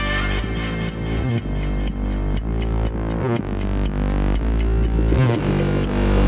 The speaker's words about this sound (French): À peine ta montre fait tic-tac déjà, elle le fait tac le temps